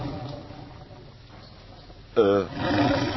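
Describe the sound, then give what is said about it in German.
A sudden loud growl from a hungry person's stomach bursts out after a quiet stretch, a deep rumbling roar-like groan lasting a moment before settling into a fainter, continuing rumble. “Nee, mein Magen, ich hab Hunger.”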